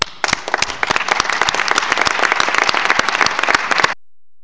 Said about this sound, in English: Please join in a warm applause to show our appreciation for every successful voluntary peer review on competition and policy of Paraguay.